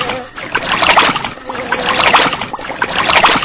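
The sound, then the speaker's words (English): Rhythmic watery splashes and swishes repeat steadily as a video game character swims with quick strokes, churning the surface, fairly loud with no voices over them. “I'm in the water again, so I'm swimming again with the up arrow key very quickly.”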